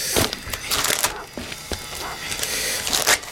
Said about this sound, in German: Ja, auf dem Umschlag ist ein großes Fragezeichen draufgemalt. Hier, mach du ihn auf